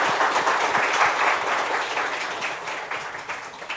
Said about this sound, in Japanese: 皆さんお母様に拍手を送りましょう。